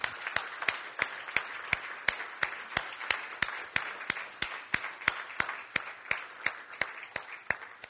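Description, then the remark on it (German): An audience applauds the church elders, a dense wash of clapping punctuated by sharp, steady rhythmic claps about three per second, fairly loud and sustained throughout, with no voices over it. “Und ich denke, wir könnten denen einfach mal einen Applaus geben, oder?”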